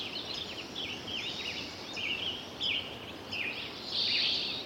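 A spring recording from 2009 as bird populations thin out: a few birds sing and chirp intermittently, sparse, high-pitched phrases rising and falling over a steady background hiss, with no other prominent sounds.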